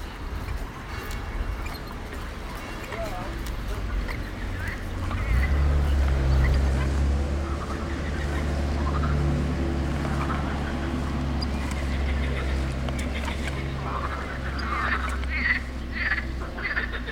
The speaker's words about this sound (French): I was hoping we would hear that. Ce qu'on entend, ce sont les grenouilles de Sospel, the morning chorus of frogs chirping on the river Bévéra.